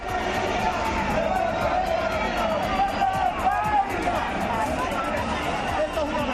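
A protest crowd in a tense standoff with police at the Puerta de Alcalá, Plaza de la Independencia, in Madrid, as protesters try to bring in tractors: a dense, continuous roar of many overlapping raised voices, staying loud and agitated for the whole stretch with no single speaker standing out.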